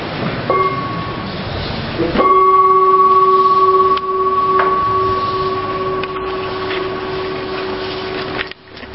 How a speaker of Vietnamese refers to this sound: Nữa thì mình thấy như vậy thì mình thích thú rồi, cho nên nghe tôi thỉnh tiếng chuông, quý vị nhắm mắt lại cái cho đạt người.